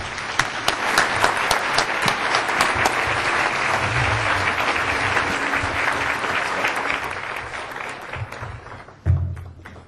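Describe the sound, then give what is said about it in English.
A crowd applauds to welcome Dr. David Schindler before his talk on Canadian fresh water in the 21st century, dense overlapping claps holding a loud, even level for several seconds before tapering off, with a low thump near the end. “Please join me in welcoming Dr. David Schindler.”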